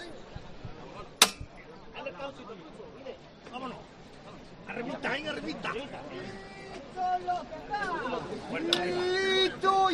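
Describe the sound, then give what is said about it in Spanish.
A single sharp, loud knock of the foreman's hammer rings out over a murmuring crowd, signalling the lift of the Virgen de Lágrimas palio float in a Holy Week procession; the chatter swells afterward and the Filarmónica de Conil band begins sustained musical notes toward the end. “Vamos a escuchar esa levantada del capataz, martillo.”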